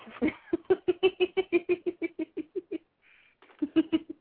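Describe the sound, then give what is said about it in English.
A puppy, standing and looking up at its owner, whines in a quick, steady string of short, high-pitched yelps, pauses briefly, then starts up again; no one speaks. “And he's whining.”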